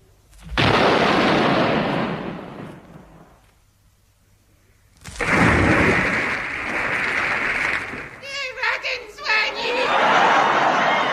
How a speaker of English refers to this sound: It's time to fire a salute.